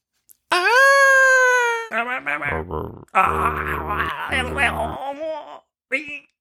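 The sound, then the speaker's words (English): A voice imitates an eerie, drawn-out scream like the alleged Bigfoot vocalization known as the Ohio Howl, recorded in 1994: one loud, sustained wailing howl that rises slightly, followed by rough, growly moaning bursts and a short final yelp. “No, it's a vocalization and it's an eerie, slowly rising scream. And it was recorded in 1994.”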